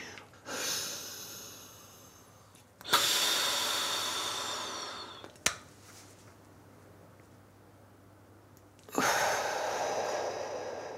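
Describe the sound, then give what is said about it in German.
A deep, rushing inhalation from a powder inhaler, drawing the powder into the lungs, followed by a pause with breath held, then a second strong breath in; breathy hissing sounds separated by near silence, no talking. “Man atmet es dann also ganz tief ein, drückt dann praktisch dieses Pulver in die Lunge, hält einen Moment den Atem an und atmet dann still wieder aus.”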